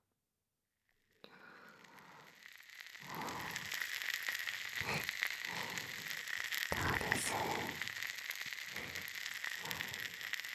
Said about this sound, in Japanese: シュワシュワ。パチパチ。不思議な感じでしょ。